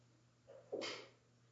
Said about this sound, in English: Bless you.